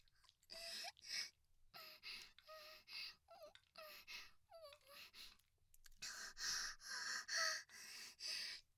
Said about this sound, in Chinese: 主人的喘息，小狗狗也好兴奋。